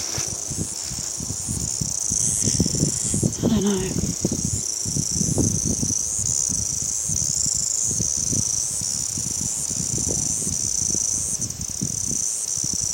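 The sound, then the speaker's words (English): Cicadas buzz in a steady, high-pitched drone that holds through the whole stretch, with a faint wavering shimmer. Someone talks briefly and quietly underneath, and there are low thumps and rustles throughout. “I think they're a bit stupid, cicadas are.”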